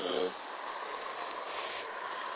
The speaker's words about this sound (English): The traffic noise is terrific out here. We've got trucks and people speeding up and down the road. It's a wet road, too, so that's even louder. I don't know. I can sometimes barely hear my own voice. It's when some of the trucks are going by.